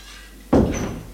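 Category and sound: household object, door being closed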